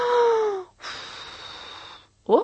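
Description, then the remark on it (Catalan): A voice imitates a wolf blowing hard at a house to knock it down: a voiced, falling huff, then a long, airy, breathy blow lasting over a second, followed after a pause by a short, sharp intake of breath. “Va tornar a bufar.”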